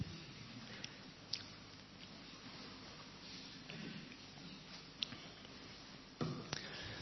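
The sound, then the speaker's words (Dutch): A preacher takes a quiet sip of water during a sermon: soft mouth and swallowing noises over low hiss, with a few faint clicks and a light knock near the end. No one speaks. “Ik ga even een slokje water nemen, want ik kom aan het moeilijkste stukje van mijn preek.”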